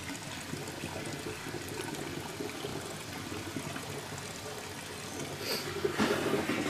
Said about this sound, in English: So basically, the pond has a pump in it that pumps the water out through this filter, and then that gets pumped into this barrel, which I can isolate from the other 7 barrels and just have this barrel, you know, fill up and raise down and do whatever